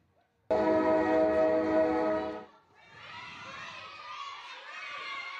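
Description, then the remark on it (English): A train horn blares in one loud, sustained blast lasting about two seconds, then gives way to a softer, steady rumble of railway and crowd noise. “It's a train. Okay, you were right.”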